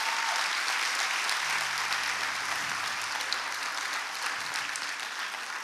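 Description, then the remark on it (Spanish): Sustained applause from an audience, clapping for God: a dense steady wash of many hands clapping that holds strong throughout and eases slightly at the end, with a low hum underneath. “Dale un aplauso fuerte a Dios por eso.”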